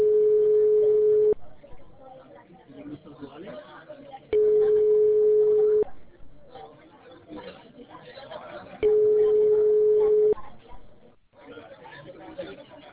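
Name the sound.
phone call ringing tone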